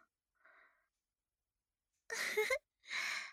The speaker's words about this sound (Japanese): あくびが映ったね。